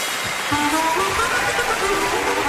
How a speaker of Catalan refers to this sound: Senyores i senyors, donem la benvinguda al nostre predicador, el gran optimista. Si us plau, un fort aplaudiment per ell.